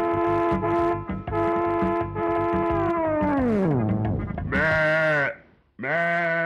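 A sheep bleats loudly, one long quavering cry that sags downward in pitch, followed by two shorter bleats after a brief pause, with no talking.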